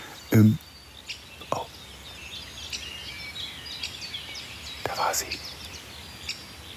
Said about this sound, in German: Fasan war eben zu hören. Da war er.